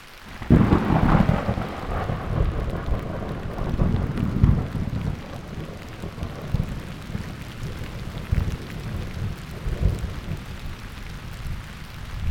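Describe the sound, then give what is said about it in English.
A thunder shower in a National Forest on a mid-May late afternoon, with steady rain falling all around, a deep rumble of thunder rolling in near the start and lingering low beneath the constant hiss of the downpour. “We arrive in the National Forest in late afternoon, in the midst of a thunder shower.”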